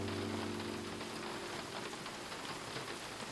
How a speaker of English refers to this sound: Before long, the tapping on my legs is not enough. The rain calls me out. With a little jump, I slide off the edge of the porch and feel each of the individual cool drops splash on my face and head until I'm covered.